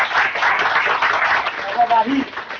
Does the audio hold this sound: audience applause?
yes